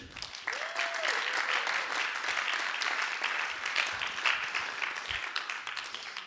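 Sustained crowd applause for an interview guest on stage, a dense wash of many hands clapping at steady volume for several seconds, with a brief rising whistle-like tone early on.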